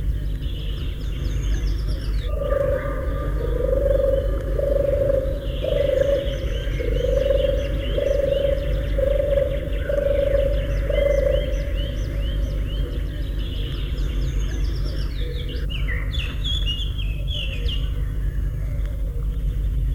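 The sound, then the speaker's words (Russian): A turtle dove coos at the edge of a forest clearing in a steady run of low, purring phrases, with faint birdsong chirping higher in the background and a constant low rumble underneath. “краю лесной опушки воркует горлица.”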